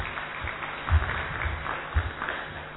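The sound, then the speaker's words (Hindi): An audience applauds to welcome an invited speaker, with a steady, fairly subdued patter of many hands clapping for about three seconds, broken by a couple of dull low thumps; nobody speaks. “हम इनका तालियों से स्वागत करते हैं।”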